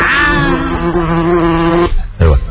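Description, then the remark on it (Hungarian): A big green fly buzzes with a loud, steady hum for about two seconds, then cuts off, followed by a brief muffled bump and a short final burst of buzzing. “Zöld üveges, jó lesz, mert ez zöld légy. A nagy zöld légy.”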